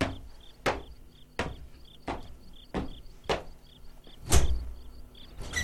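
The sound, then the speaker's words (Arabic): A door is opened with a series of sharp wooden clunks and rattles, the last one heaviest, while crickets chirp steadily in the quiet background. “افتح الباب”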